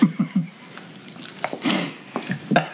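Close, wet chewing right at the microphone: a quick run of soft thumps, then irregular smacking clicks and mouth noises scattered over a few seconds, with no talking.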